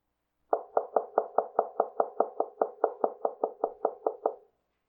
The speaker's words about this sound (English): Jesus knocks on your door.